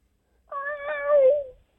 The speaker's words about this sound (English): What, is that a cat on the air? Meow! Wait, how did a cat get a hold of a cell phone? Meow! Wow, this cat sounds pretty distressed.